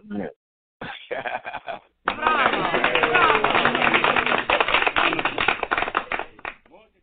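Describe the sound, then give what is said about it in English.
A round of applause: a dense, steady wash of many hands clapping for several seconds before tapering off, preceded by brief indistinct voice-like sounds. “So let's give you a round of applause, man.”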